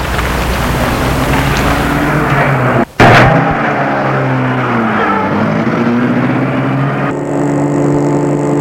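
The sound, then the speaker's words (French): A car engine runs loudly, with a brief cut and a sharp jolt partway through, then the motor's pitch rises and falls as the car is started and pulls away, driving off through dark Paris. No one speaks. “Et Julien met la voiture en route.”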